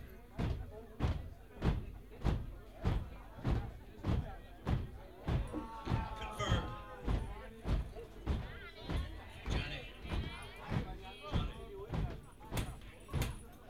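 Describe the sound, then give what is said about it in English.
A crowd stomps its feet in a steady, heavy beat, a little under two thuds per second, with whistles and cheering rising over the pounding midway through. “You don't need to clap your hands. Stomp your feet.”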